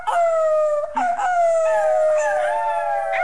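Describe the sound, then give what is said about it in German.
A sixth-grade schoolchild imitates a wolf howl, a long sustained wavering tone that briefly breaks near the start, then slides slowly downward. Loud, with no other talk. “Ich kann eigentlich kann einen Wolf, kann der ich vielleicht.”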